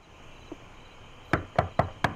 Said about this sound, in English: Later that night, Heaven knocks on Fanny's front door. Fanny stands behind the screen.